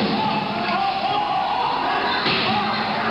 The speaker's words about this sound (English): Several people now carrying chairs, sticks. One guy has a shovel. Chairs being thrown around.